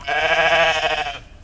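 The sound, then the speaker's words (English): A single sheep bleats loudly, a long wavering baa lasting just over a second before cutting off into faint background quiet. “Some people have asked me to talk a little bit more about the sheep and their personality and how they communicate.”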